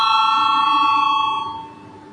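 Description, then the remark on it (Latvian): A sustained electric bell in a parliament, rung to call a vote, rings steadily and loudly for over a second, then fades as the tone lingers and decays, with no talking over it. “Lūdzu zvanu, balsosim par 23.”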